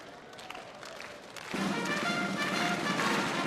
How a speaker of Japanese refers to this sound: スターターが今ゆっくりとスタートカーへと向かっています。今西日を正面に受けながらスターター、スタートカーへ、我慢できないといった感じ、手拍子が湧き起こっています。